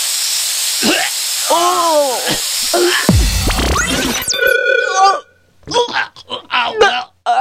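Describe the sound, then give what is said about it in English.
An aerosol can of Guest Away spray, which gives off a skunk-like smell, hisses in a loud, steady burst lasting about a second, surrounded by exaggerated groaning and wailing voices, with a faint hiss running underneath throughout. “Quick, spray some more!”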